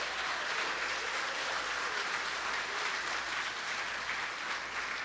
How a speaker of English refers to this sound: Boy, that was an easy round of applause.